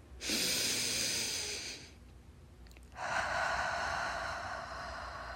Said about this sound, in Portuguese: Puxe o ar pelo nariz, devagar e bem profundo, contando mentalmente até 3. Agora solte o ar pela boca ou pelo nariz, contando mentalmente até 5 ou 6. Vamos, eu vou fazer com vocês.